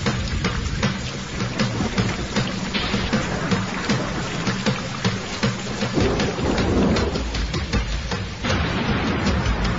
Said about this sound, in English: I like thunder.